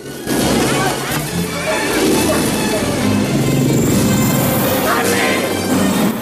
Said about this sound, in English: Podolsky fires a couple of missiles, which Rambo evades by banking along the river bends. More missiles miss the chopper. The POWs are thrown around by explosions as missiles hit the ground around the chopper and buffet it in the sky.